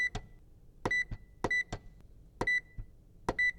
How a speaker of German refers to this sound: Viele Artikel tragen deshalb einen Strichcode. Die Verkäuferin zieht sie einfach über ein piependes Lesegerät und der Computer rechnet aus, wie viel der ganze Einkauf kostet.